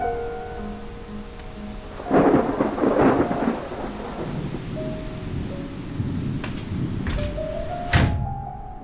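Steady rushing rain fills the whole scene, swelling into a heavier roaring burst early on, with a few sharp thuds and a thunder-like crack near the end. No one speaks.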